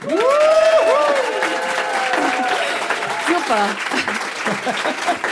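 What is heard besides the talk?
studio audience applause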